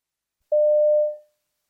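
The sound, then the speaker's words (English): A single steady telephone dial tone at a London fruit and vegetable wholesaler taking restaurant orders by phone sounds clearly for under a second, a pure mid-pitched hum that starts abruptly and then fades away, with no voices around it. “It gets really tough in the run-up to midnight when everyone phones us at once with their requests.”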